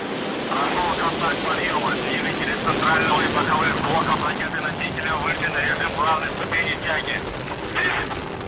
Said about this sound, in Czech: 23. srpna ve 3:08 našeho času přišel start rakety Soyuz 21A. Ta z kosmodromu Baikonur vynášela nákladní kosmickou loď Progress MS-24.